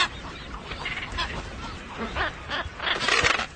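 A dense chorus of thousands of seabirds on Rain Island calling all at once as they jostle for space in the centre of the island, harsh honking and squawking cries overlapping continuously, with a brief louder swell of calls toward the end.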